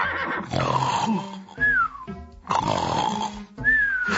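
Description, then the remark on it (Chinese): Loud rasping snores from drunken Nanman warriors lying on the ground, in two long cycles, each ending in a thin, high whistling squeal that rises then falls, with a short pause between them and no talking. “哎呦，怎么100多个南蛮的勇士啊，一个一个都像猪一样躺在地上打呼啊”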